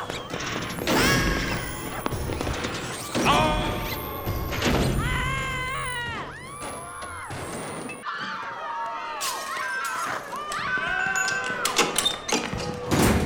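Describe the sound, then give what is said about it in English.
A chaotic run of loud crashes and heavy thuds as people tumble through a secret trapdoor on a stage, mixed with sliding whistles and squeaky cartoon-style effects over about thirteen seconds. “Now, Commander! Into the trap door!”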